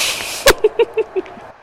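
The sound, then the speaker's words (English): A steady hiss cuts off with a sharp knock, followed by four short, hollow clanking pops of underwater bubbles in an even, quick rhythm, moderately loud, with no voices. “And what are those clanking sounds? Those are bubbles.”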